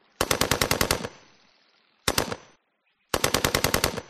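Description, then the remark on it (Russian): Three short bursts of machine-gun fire, shot in the morning from dense thickets at the foot of a hill at a boat and hitting two people in it, ring out, each a rapid run of loud, evenly spaced cracks trailing into a fading rumble. The middle burst is briefest, with no voices present. “Внезапно взорвав утреннюю тишину и спугнув птиц, три короткие очереди из плотных зарослей у подножия сопки выбили из лодки сразу двоих.”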